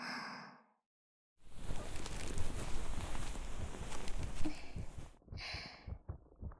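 Soft, steady heartbeat thumps pulse under a wash of rustling noise, framed by quiet breathy sighs at the start and end.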